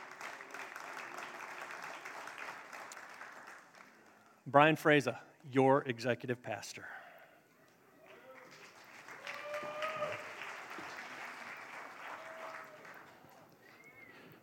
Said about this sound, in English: So you can clap for that.